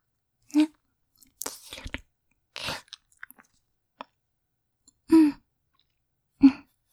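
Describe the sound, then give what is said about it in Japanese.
Wet lip-licking sounds as dry, chapped lips are licked to moisten them: a handful of moist smacks, slurps and small clicks come in irregular bursts over several seconds, soft and intimate, with quiet pauses between them and no speech. “舐めて、潤してあげるわね。”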